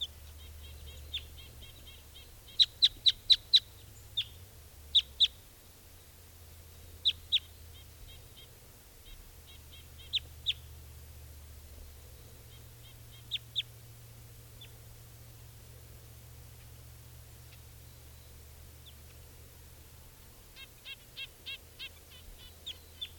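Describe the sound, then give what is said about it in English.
A wild bird perched on top of a Douglas fir, about 15 feet up, calls repeatedly in short, high-pitched bursts of sharp chirps, some clustered in rapid runs, over a steady low rumble with no talking. “According, there's another bird here.”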